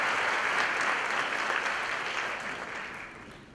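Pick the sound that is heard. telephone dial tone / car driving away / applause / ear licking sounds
applause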